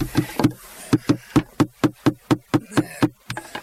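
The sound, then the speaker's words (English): Hammering on floor footplates: around a dozen sharp, loud blows at a steady, quick pace, with a short pause after the first few strikes and no voices. “Pass the hammer”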